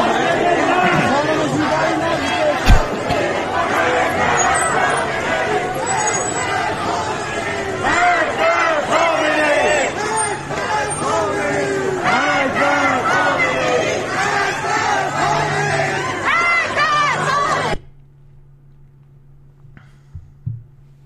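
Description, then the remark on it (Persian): A large protest crowd in the streets of Tabriz, Iran, chants loudly with many voices for about eighteen seconds, a dense continuous roar that cuts off abruptly, leaving only a faint low hum. “میدونید که همه میگن تهران و تبریز بلندشن، یه چیز کلاسیک داریم که آقا حکومت سقوط میکنه، و این هم تبریز امروز.”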